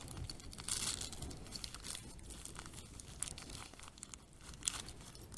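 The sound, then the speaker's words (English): The paper wrapping of a package is torn and crinkled open in continuous bursts, with crisp rips and rustling crumples running throughout and a few sharper tearing snaps near the end. No one speaks. “This is wrapped far too well.”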